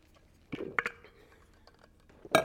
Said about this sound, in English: I'm going to take another little sip here, because we're there now.